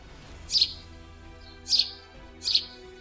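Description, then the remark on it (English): Three short, bright sparrow chirps sound at roughly even intervals over a quiet low background hum, clear. “Dinner for the sparrows.”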